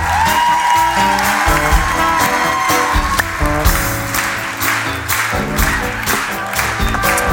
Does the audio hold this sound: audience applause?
yes